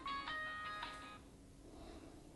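A mobile phone in the audience of a talk rings out, a bright melodic electronic jingle playing for about a second before cutting off, leaving quiet ambience.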